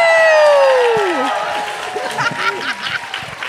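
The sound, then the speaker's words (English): A loud crowd in Moscow roars and cheers, opening with a long falling whoop before settling into scattered clapping and excited shouts that continue steadily to the end. “Very woke crowd in Moscow, by the way.”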